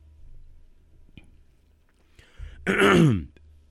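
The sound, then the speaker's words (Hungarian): Faint handling noises and soft clicks lead into someone drinking water, ending with a loud, throaty swallow and gasp that sounds almost like clearing the throat. “Bocsánat, csak innom kell vizet, kiszáradtam.”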